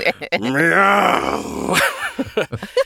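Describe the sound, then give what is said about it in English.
A person imitates a deep, rasping demonic growl, a long drawn-out guttural snarl that rises and strains for over a second, followed by a few short breathy grunts, loud. “Do I do the demonic growl?”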